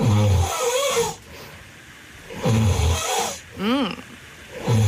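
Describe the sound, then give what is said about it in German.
A man in Fensterwalde, Brandenburg, snores loudly in repeated cycles, deep rumbling inhalations about every 1.5 seconds separated by quieter breathing, with no talking. “Zum Beispiel vom Schatz von Johanna Schapp aus Fensterwalde. Hören Sie mal.”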